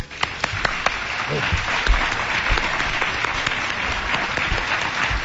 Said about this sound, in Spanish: Pero yo os pido un aplauso para que vea la gente en España, los que estamos aquí en este Palacio de Congresos, y sobre todo para saludar a nuestros invitados.